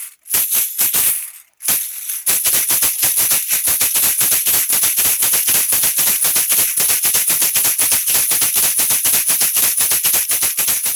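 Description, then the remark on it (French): A ganzá shaker of the kind used in batucadas, with small clashing cymbals in place of seeds, plays a fast, steady rhythm of bright, sizzling metallic pulses. A few loose strokes and a brief pause come first, then a loud continuous groove with no voices. “Mais dans les batucadas, on remplace les graines par des petites cymbales qui s'entrechoquent pour pouvoir jouer aussi fort que les sourdeaux, les tambourines et les agogos.”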